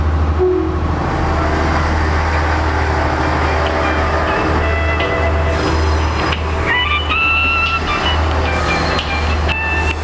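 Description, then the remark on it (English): A steady low rumble of a train idling at platform 1 of a station, due to depart for Adelaide stopping at all stations, with metallic squeals and brief high tones rising over the constant drone, loud throughout. “Early morn train station”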